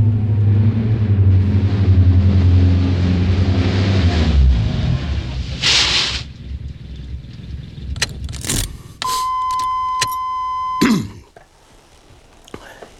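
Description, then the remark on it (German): A car engine drones steadily for a few seconds on a drive from Los Angeles to Pasadena, then stops as the driver halts, followed by a rush of noise, several sharp clicks and a steady electronic warning tone. “Auf der ganzen Fahrt von Los Angeles nach Pasadena hatte Bob das Gefühl, es würde etwas Unvorhergesehenes passieren”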